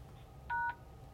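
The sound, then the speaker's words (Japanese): A single short telephone keypad beep, the pound key pressed once at the end of an answering-machine message, sounding clear and steady for about a quarter second over a quiet line with a faint low hum. “ご用のある方は、発信音の後にメッセージを話し、お切りになるか、最後にシャープを押してください。”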